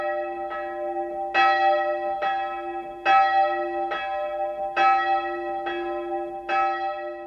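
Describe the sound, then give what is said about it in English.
Church bells ring in a steady alternating pattern, about eight strokes with louder and softer peals trading off, each one leaving a long humming resonance that carries under the next. No voices. “On their way to the museum, visitors can also admire an exhibition on the history of Bolna's bells and the work of bell ringers.”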